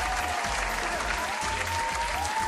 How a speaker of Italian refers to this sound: Al primo posto abbiamo Il Segreto. Applausi.